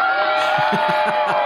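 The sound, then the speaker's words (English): A loud crowd cheers and claps over a dense wash of noise, with whoops and rhythmic bursts pulsing through the short burst of celebration. “And I want to say, I want to give you a hand right now and tell you that that was a good example of being persistent, you know, squeaky wheel, the whole thing, to get something like that.”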